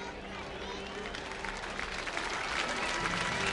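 A crowd of Fred Nats fans at a baseball stadium applauds steadily, a dense wash of many hands clapping at once that swells a little louder toward the end, with faint murmuring beneath it.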